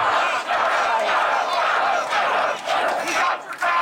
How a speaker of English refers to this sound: Vice President Harris hit the road with her new running mate Tim Walz today and rallied this hour in Wisconsin. The crowd cheering on the former Minnesota coach.